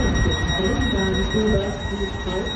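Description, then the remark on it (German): A high, steady electronic door warning beep from one of the newest Berlin S-Bahn trains, in service since 2021 on lines including the Ringbahn, sounds throughout over a low rumble of train noise, with a voice talking underneath. “Denn mit Einführung der neuesten S-Bahnen, die seit 2021 unter anderem auf der Ringbahn unterwegs sind, ist aus dem harmonischen Zweiklang auf einmal dieses für manche schon fast penetrant wirkende Piepsen geworden.”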